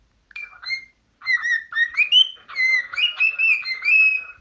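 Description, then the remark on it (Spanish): A series of short, clear whistles rising and falling in pitch, moderately loud in quick bursts after a brief opening phrase, with no talking. “Entre los dos mantenían una conversación, y de repente la sita ácida me silbó.”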